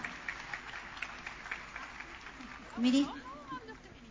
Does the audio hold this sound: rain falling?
no